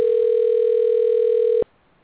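A steady, unbroken cell phone dial tone hums at a single mid pitch for about a second and a half, fairly loud, then cuts off abruptly into near silence. No voices.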